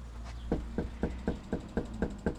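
A rapid, evenly spaced series of about eight fairly sharp knocks on a front door in Yakima, Washington, during door-to-door political canvassing under a beating sun, over a low steady background hum with no voices.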